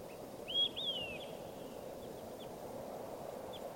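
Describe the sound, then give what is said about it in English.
A recording of bird number 585: the bird sings two bright, arching whistled notes in quick succession, then a few faint, brief chirps follow over a steady hiss of background noise. “Start recording bird 585.”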